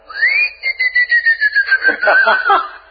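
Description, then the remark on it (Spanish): A person whistles to call someone after saying their name: one long, clear note that swoops up quickly, then glides slowly downward, loud, with a slight wavering pulse toward the end. “diciendo su nombre y después un silbidito.”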